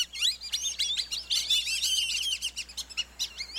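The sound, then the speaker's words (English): A flock of whistling ducks calls together, a busy chorus of thin, high whistled notes overlapping continuously with no one speaking, lively. “Late in the day, large flocks gather, then whistle their way overhead at sunset to nighttime feeding areas in fields or along the shore.”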